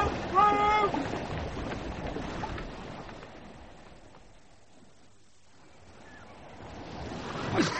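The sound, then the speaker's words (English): A ship's gig, a rowing boat, moves through choppy water to pull a man overboard out, with steady splashing and wash that fades in the middle and swells again toward the end. Brief shouted voices ring out near the start. “Bosun, when we come into the wind, you take the gig and heave the bastard out.”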